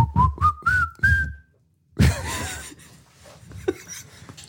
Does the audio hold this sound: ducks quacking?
no